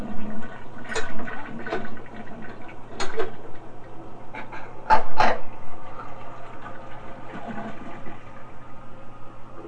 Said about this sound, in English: Okay, help Daddy flush the toilet. Here we go. Push down. Good.